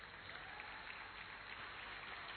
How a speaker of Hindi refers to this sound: हाँ, अब मेरी आत्मा तृप्त है कि दादी और पोती इतनी ताकत लगा करके अगर डांस कर रही है तो आप तालियों में संकोच क्यों कर रहे हैं।